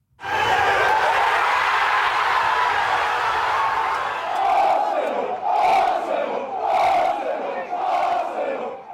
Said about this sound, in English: Crowds lit flares and led chants in the streets of North London as Arsenal clinched its 14th English title overall.